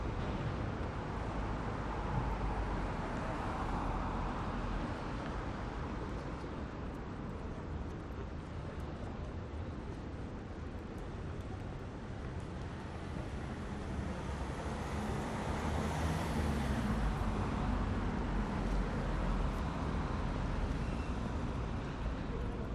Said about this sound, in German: Wenn ich angekommen bin, beim Zebrastreifen rechts von mir, warte ich, bis die Autos stehen bleiben und gehe hinüber auf die andere Straßenseite.